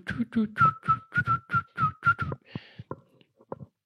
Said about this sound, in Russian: Люди насвистывают только позитивные мелодии.